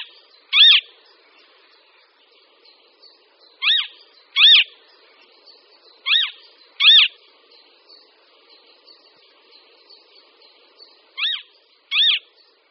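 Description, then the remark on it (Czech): Loud, high-pitched calls of a male marsh harrier in flight over the territory he defends against other males, seven sharp cries spaced irregularly, several in quick pairs, over a faint steady background with no talking. “A aby přitom nezůstal nepovšimnut, tak let nad svým výsostným územím doprovází hlasitým křikem.”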